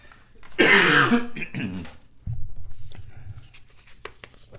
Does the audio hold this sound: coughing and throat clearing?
yes